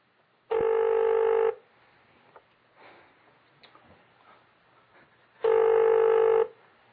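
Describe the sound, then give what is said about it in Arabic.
A telephone ringback tone from a call placed to a caller during a live on-air broadcast sounds twice. Each steady electronic ring lasts about a second with a long pause between, loud and clear over quiet line noise and faint clicks. “طيب هذا يدق حياك.”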